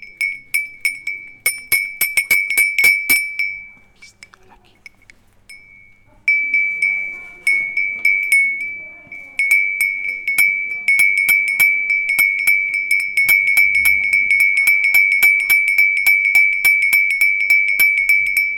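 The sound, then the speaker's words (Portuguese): A small sheep bell rings in rapid, steady clinks, each bright metallic strike ringing into the next. It pauses briefly once, then resumes ringing continuously. A voice speaks briefly during the pause. “Isto é de uma ovelha.”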